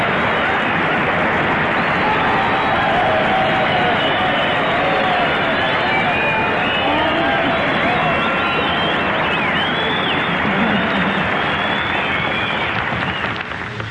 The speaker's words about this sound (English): Well, listen to that. You know, Virginia, you got more applause than I did.